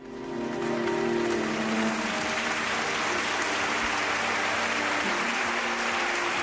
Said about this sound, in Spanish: Con esta sentida ovación ha terminado el funeral en memoria de las 45 víctimas del accidente ferroviario de Adamuz. Han asistido 4.350 personas, 300 de ellas heridos, afectados y, por supuesto, familiares de las víctimas.